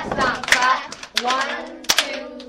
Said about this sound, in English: 5, 6, 7, 8. Stomp, clap, clap, stomp, clap.